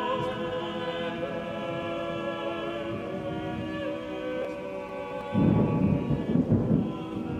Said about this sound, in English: That was the pointed thunder included by Herzog's sound designer.